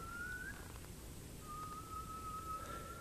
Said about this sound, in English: The call of a spotted owl stops her in her tracks. Let's go down and see this owl. We've stumbled on a pair of this iconic endangered species, and they're so close we can look them in the eyes.